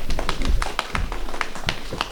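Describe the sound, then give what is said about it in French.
Kangaroos hopping: a quick, uneven series of soft thumps and taps, about a dozen in two seconds, moderately loud, with a low rumbling underneath and no voices. “Il y avait des kangourous.”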